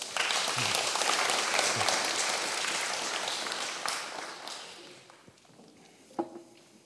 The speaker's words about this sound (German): Danke euch. Einen Applaus bitte.